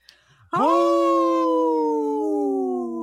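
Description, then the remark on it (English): A wolf lets out one long, loud howl after a brief moment of quiet, holding a steady tone that sags slightly in pitch as it stretches on, close and alone. “In this portion of the show, we like to support our United States wolves and bear populations.”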